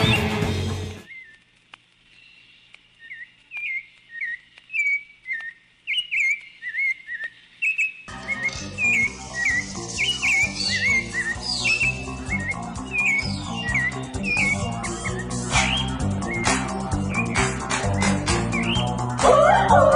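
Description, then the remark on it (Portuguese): A run of bright, repeated bird chirps rings out alone at first, then keeps going as a dense, busy layer of sound swells in behind it and fills the rest, opening a birds special on Rádio Matraca. “Passarinhada, diretamente da avícola da Rádio Matraca, está entrando no ar o especial de aves, pássaros e outros bichos que valem a pena.”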